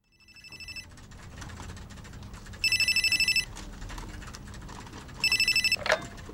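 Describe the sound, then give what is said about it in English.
A telephone rings in three short trilling bursts spaced a couple of seconds apart, as a call is placed to a counterpart at an office in New York, heard against a low background hum with a faint click near the end as if the receiver is picked up. “She phones Keith Roberts, her counterpart in New York.”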